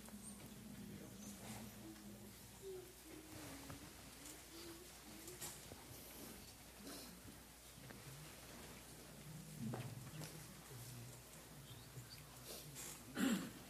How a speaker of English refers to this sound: Outside it's raining, but inside the Sangha is like a family.